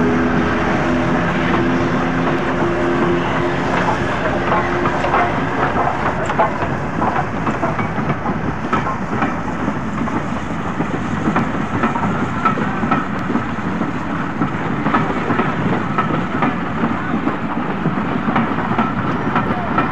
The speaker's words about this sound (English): And you'll be able to pick out the noise of the electric locomotive gearing, revving up, and the conrods of Flying Scotsman as she moves away being towed by the electric locomotive.